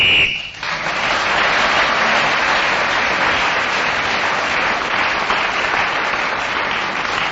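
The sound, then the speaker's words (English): A short, shrill whistle blast ends Clement Freud's turn of speaking at the very start, then is swallowed by loud, steady applause from an audience that carries on for several seconds. “Well, Clement Freud just kept going until the whistle went, and only just, but he did manage it.”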